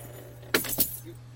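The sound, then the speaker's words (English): Keys jangle in two quick metallic shakes as they are handed over, bright and clinking, over a low steady hum, then settle into quiet. “You need my keys? Here you go.”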